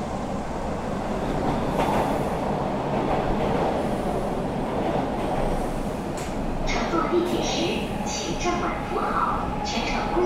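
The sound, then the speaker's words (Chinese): A late-night subway train carrying some of the last passengers heading home runs steadily, its loud, continuous rumble filling the space, with brief metallic squeals rising near the end and faint muffled voices underneath. “深夜的地铁几乎载着最后一批归家的人”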